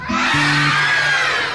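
A dense, loud wash of many overlapping screams from an abandoned house on a dark night fills the whole moment, like a crowd shrieking at once, with a low steady hum underneath and no pauses.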